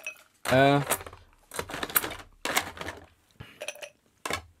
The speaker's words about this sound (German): Hier in dem anderen wäre jetzt der Apfel ja durchgezogen. Genau. Rühr mal ein bisschen noch am Glas.